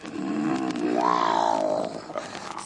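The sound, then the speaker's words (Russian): A lioness roars once, loud, a rough, drawn-out call that swells in pitch and then sinks away over a couple of seconds, with no voices around it. “Солнышко село за лес, прибежала львица.”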